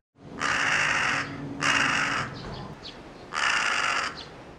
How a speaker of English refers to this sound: Today we heard a couple of crows making a lot of noise near our house.